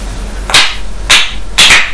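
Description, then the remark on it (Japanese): Three sharp, bright clacks of wooden clappers struck together for a Japanese fire watch ("hi no yōjin"), evenly spaced about half a second apart, each loud and crisp with a short ringing tail, and no voices. “ひなよじん。トントンコ2回。”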